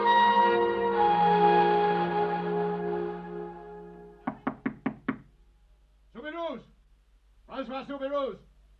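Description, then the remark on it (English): A fading, ringing tone gives way to five quick, firm, loud knocks on a door in a steady rhythm by police, followed by a man's voice calling out. “Hey, you down there. Open the door. Police.”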